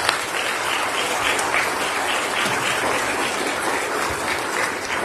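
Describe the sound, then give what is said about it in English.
Steady, loud applause from a crowd at a church, giving the graduates a round of applause, dense clapping sustained evenly for about five seconds with no voices breaking through. “But again, I think it's appropriate for us to give our graduates a round of applause.”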